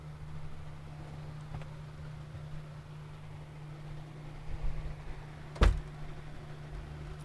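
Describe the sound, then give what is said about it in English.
A single sharp thud of a door being closed lands near the end, preceded by faint shuffling, all over a steady low hum with no talking. “Sorry, just came back from closing a door.”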